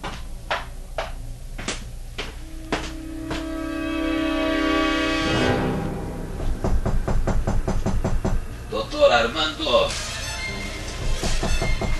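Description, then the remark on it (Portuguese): Someone knocks on Doctor Armando's bedroom door: a series of sharp, evenly spaced raps, then faster, insistent pounding, loud, with sustained musical tones underneath. “Abre a porta de uma vez”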